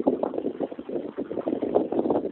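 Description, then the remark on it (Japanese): Idling car engines in a traffic jam, on the cars behind the speaker at Enoshima, Japan, give off a steady low rumble that pulses slightly and never stops, with some wind noise mixed in and no voices. “波の音より車の後ろを走ってる車のエンジン音の方がひどいんだな。”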